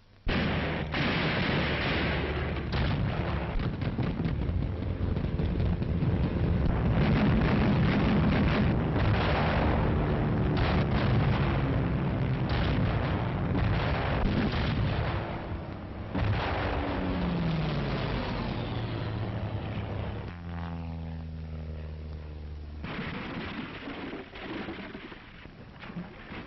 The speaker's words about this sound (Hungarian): Német légvédelmi tüzérség és szövetséges repülőgépek tűzharca.